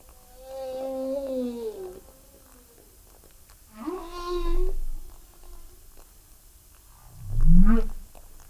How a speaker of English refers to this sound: These are the sounds of humpback whales. These ones are from Monterey Bay, where I was landed upon by one of them. Perhaps one of these voices belongs to the very same whale.